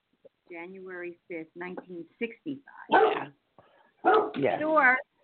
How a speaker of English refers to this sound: Thor, could you stop? Thor, come here and shut up. You know I got to yell at my dog, right?